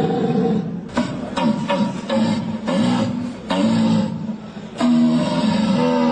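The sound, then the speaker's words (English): A person imitates a buck deer's call, an 800-year-old German tradition of calling for deer, with a series of deep, groaning roars: several loud guttural bellows in succession with brief breaths between, unaccompanied by talk. “It is an 800-year-old tradition where Germans are calling for deer.”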